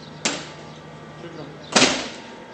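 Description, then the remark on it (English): A heavy refrigerator door at the Yarmouk morgue in Baghdad, Iraq, opens with a sharp clunk, followed a moment later by a louder latch-and-swing sound with a lingering rush of noise, over faint background murmur. “We start with the effort to gather evidence at a Baghdad morgue, which constantly opens its refrigerator doors to take in more of the dead.”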